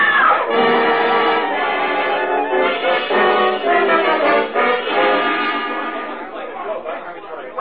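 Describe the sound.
A loud, agitated crowd clamors in a hotel lobby after the lights go out. Many overlapping voices shout and exclaim at once, with a sharp high-pitched scream near the start before the uproar slowly eases.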